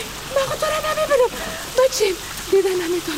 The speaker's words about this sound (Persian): باران هست، باران میباره